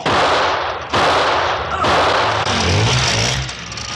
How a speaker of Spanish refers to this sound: Una a una, las motocicletas RL empiezan a explotar y a desintegrarse junto con sus ocupantes. ¡Las máquinas estallan! ¡Cuidado!